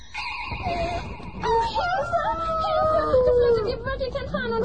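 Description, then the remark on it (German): A rooster crows loudly: a long, wavering, drawn-out crow with a few broken clucking notes, following a bright sustained shimmering tone at the start. “Ene, mene, mai, Teddybär ein Hahn jetzt sei.”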